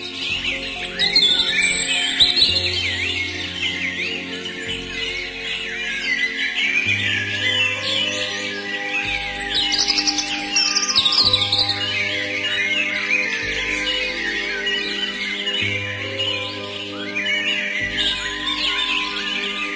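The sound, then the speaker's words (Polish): A great tit sings, its bright, busy chirps running continuously over gentle background music with a steady pulsing bass line. No one speaks. “Posłuchajcie kilka ciekawostek o sikorce bogatce.”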